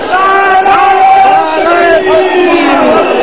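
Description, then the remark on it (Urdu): A large crowd shouts slogans together, a loud, sustained roar of many voices chanting in unison without a break. “بھئی ایک منٹ ٹھہرو, ٹھہرو, نعرے نہیں لگاؤ, ٹھہرو”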